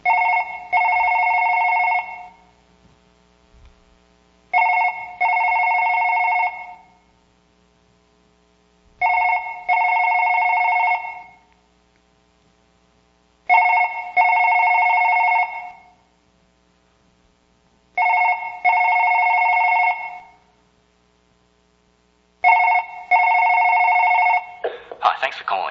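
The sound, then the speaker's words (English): A telephone rings six times in steady, evenly spaced bursts, each ring about two seconds long with short pauses between, loud with nothing else around it. “And he's begging you to pick up the phone.”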